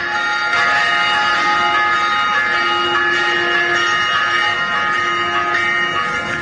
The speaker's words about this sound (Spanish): pero hay una sirena inicial incluso, esto es lo que escuchan los Ciudadanos de Vic.